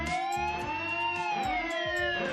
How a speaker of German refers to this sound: So klingt das, wenn die Katastrophen-App Katwarn Gefahr meldet. Mehrere hunderttausend Menschen haben diese App in München installiert, damit sie vor schweren Katastrophen gewarnt werden.